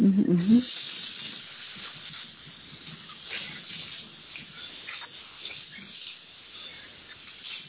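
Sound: water running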